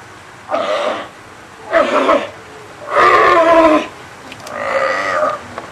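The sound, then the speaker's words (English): Seals and sea lions, housed one to three at a time in individual chain-link enclosures with small concrete pools at the Marine Mammal Center, call out on a sunny day in four loud, harsh, drawn-out bellows, each lasting about half a second to a second, with brief pauses between them and no talking. “Seals and sea lions are housed here, one, two, or three at a time, in individual chain-link enclosures, each one containing its own small concrete pool.”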